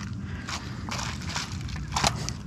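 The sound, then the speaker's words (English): A dark plastic bag covered in dirt, picked up from the ground, rustles and crinkles in several short, irregular bursts of crackly noise, the last one sharpest, over a steady low rumble with no voices. “A plastic bag covered in dirt.”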